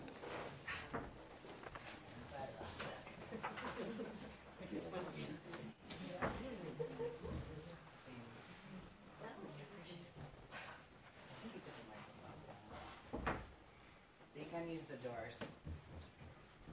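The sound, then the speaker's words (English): Sliding doors rumble along their tracks and bump shut, two or three scraping slides with a sharper knock near the middle, while muffled voices murmur in the room. “And actually, yeah, you know what, we can slide those doors shut.”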